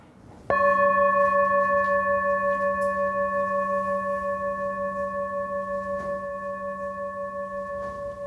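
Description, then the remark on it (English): A single strike of a mindfulness bell, its clear, bright tone sustaining with a gentle pulsing shimmer and slowly fading over several seconds, with no one speaking. “But now when she rings the bell, we could be like yelling and stuff and fighting, but we still know when that bell rings that we stop.”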